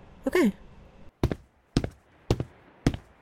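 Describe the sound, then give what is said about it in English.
A knife chops vegetables on a cutting board with four sharp, evenly spaced thunks about half a second apart, after a brief descending tonal squeak at the start. “But I can bring over ingredients and you can help chop.”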